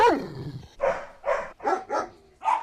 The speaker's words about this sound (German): Tatsächlich, was sagen denn eigentlich die Hundel selbst?